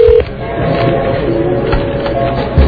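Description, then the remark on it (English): A brief electronic telephone dialing beep sounds at the start, then steady faint tones hum under a muffled, crowded background, as if heard over a narrow phone line. “And of course, it's just the fact that she's got to get up and figure out how to work the phone.”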